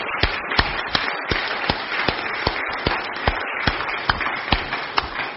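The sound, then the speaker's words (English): An audience applauds the worship with sustained, dense clapping, many overlapping hand claps forming a steady crackling wash, with a few sharper individual claps standing out at fairly regular intervals. “This, I think we should applaud your worship.”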